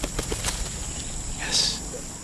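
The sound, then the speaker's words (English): A few quick, soft wingbeats flutter as a three-day-old megapode chick, released from a person's hand, takes off and flies to roost on a tree branch, fading within half a second into a steady background of buzzing insects. “So that bird sort of wobbled a bit on my right hand, and then with a push and shove, off it flew and roosted on a tree branch.”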